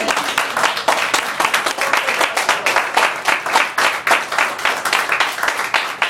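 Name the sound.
audience clapping hands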